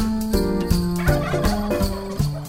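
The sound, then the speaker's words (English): A dense chorus of turkeys gobbling at Bowman and Landis Turkey Farms, a third-generation family turkey farm raising about 70,000 turkeys for the Thanksgiving and Christmas season, many birds overlapping in rapid, warbling bursts that repeat every fraction of a second, loud with no one talking. “We're a third-generation family turkey farm. We generally place about 70,000 turkeys for the Thanksgiving and Christmas season.”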